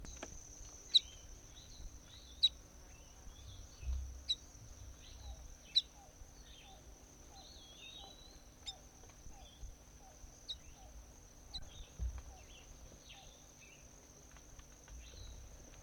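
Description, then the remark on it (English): A recording of bird M6: short, sharp bird chirps repeat every second or two, some with brief warbling notes, over a constant high-pitched insect drone and low rumbling background. “That was bird M6.”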